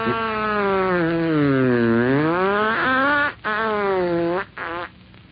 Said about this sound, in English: Thunder's break. Oh, a beautiful bit of wind-breaking virtuosity. A most difficult part to perform without plotching. This man has wonderful control, and the crowd are really warming up to him. That thunder's break counts 30 points